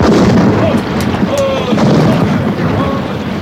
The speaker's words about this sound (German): Ich gebe Angriffssignal. Feuer! Feuer aus allen Kanonen! Ran an die Natividad, Leute! Ran! Gebt Feuer!